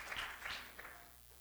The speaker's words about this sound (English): Clap your hands unto the Lord this morning.